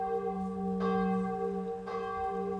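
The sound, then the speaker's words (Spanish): A small chapel bell at a hacienda is rung in alarm by a messenger to summon the farm laborers, clanging in repeated strikes about a second apart, its bright ringing tone sustaining and overlapping between hits, loud with no voices. “quien dejando el mulo al pie de la talanquera, corrió hasta la ermita y sacudió a rebato la pequeña campana.”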